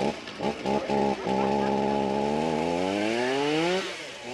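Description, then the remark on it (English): A chainsaw sputters in a few short revs, then settles into a loud, sustained buzz as crew members cut through the thick trunk of a spruce in a forest, felling it as the Capitol Christmas tree, its pitch slowly sagging under load before easing off. “Sawdust starts to pile up on the forest floor. The undeniable smell of fresh-cut spruce fills the air.”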